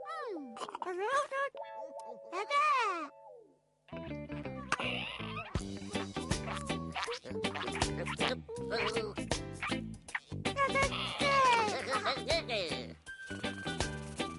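Two drawn-out meows from a small black cat rise and fall in the opening seconds, clear. Then lively music with a steady beat takes over for the rest.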